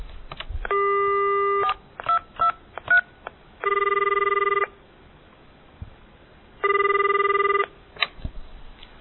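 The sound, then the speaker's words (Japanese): A quick series of telephone keypad dialing beeps as a call is placed to a phone number printed in a moneylender's advertisement, followed by two long, steady ringback tones separated by a pause, with no one speaking. “それに記載された電話番号に電話をかけ、100万円の融資を申し込みました。”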